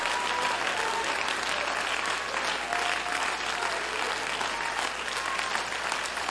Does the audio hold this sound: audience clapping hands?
yes